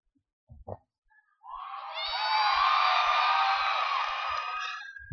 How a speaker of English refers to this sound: How did you get more applause than my joke?